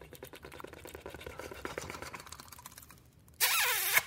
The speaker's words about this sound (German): Zungentremolo.